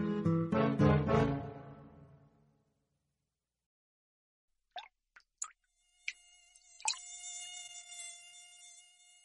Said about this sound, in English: This is the fly that climbed out of the water.